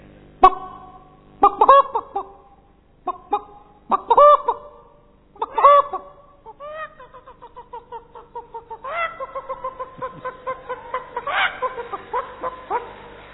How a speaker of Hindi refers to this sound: मुर्गी बिल्ली को देखी, मुर्गी की आवाज, मुर्गी जगा रही मुर्गे को। हाँ, बिल्ली को देख के मुर्गी कैसी करती है?